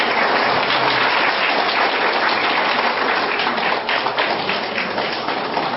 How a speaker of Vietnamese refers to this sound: Thưa quý vị, trong cái chương trình trình diễn này, xin quý vị một lần nữa một tràng pháo tay cho guitarist